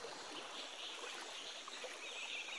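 river water flowing

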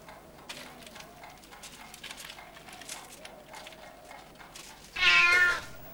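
cat meowing

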